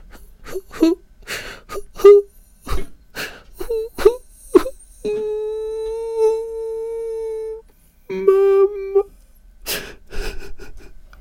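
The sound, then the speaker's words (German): A voice imitates a child's pitiful crying, sobbing and whimpering: a run of short, choked sobs and gasps, then a long sustained wail, a shorter wavering cry, and a few final sobs, fairly loud. “Es ist ja natürlich immer schwierig, wenn man selber nicht im Zustand ist, aber ein mitleiderregendes Weinen, Schluchzen, Jammern, so, ne?”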